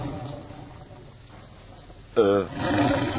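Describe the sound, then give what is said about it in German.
A loud stomach growl from a hungry person erupts suddenly, a short roaring rumble with a wavering pitch that sounds almost like a big cat, over a quiet background of room noise and voices. “Hast du einen Tiger in der Küche?”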